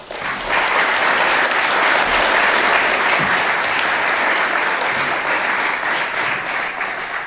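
An audience at a tech event claps to welcome a speaker giving a talk on using SSH efficiently, a dense, even wash of applause holding at a loud level for about seven seconds before easing slightly at the end, with no voices on top.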